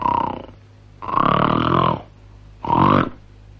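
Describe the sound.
A voice imitates the grunting snore of a 'true grunter' snoring man: three loud, throaty rumbling bursts, the middle one longest, each ending abruptly in a brief silence before the next.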